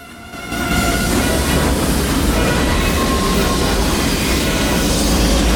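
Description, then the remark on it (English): A heavy armored train, with a tank clamped inside an armor-plated rail carriage, rumbles into motion at night after a brief quiet start, its loud, dense roar of wheels and machinery swelling quickly as it gathers speed and holding steady, continuous, with no voices. “As a single gargantuan armored train, it begins to move forwards.”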